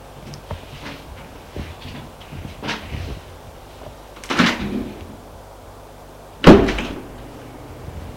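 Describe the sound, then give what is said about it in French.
A door is opened with a muffled clunk and some shuffling movement, then shut firmly a couple of seconds later with a sharper thud. “Denise a retrouvé derrière la porte l'hôtesse qui la raccompagne.”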